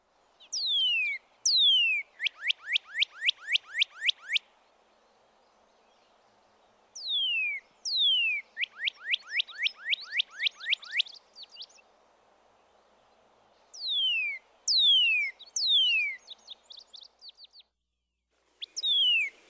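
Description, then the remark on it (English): A northern cardinal sings clear, loud downslurred cheer notes, a couple of long sweeping whistles followed by a rapid run of shorter repeated slurs, in several bouts separated by pauses. “Here are two examples of its downslurred cheer, cheer.”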